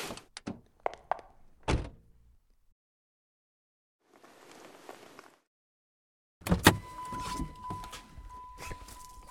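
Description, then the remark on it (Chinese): A few sharp mechanical clicks and thunks, a brief rustle, then a car door is unlocked and its latch pops open with a heavy clunk, followed by rattling movement and a steady electronic chime. “快开门，我不行了，要吐你车上了。”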